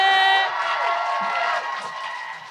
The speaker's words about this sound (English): But let's please give a warm round of applause for my queen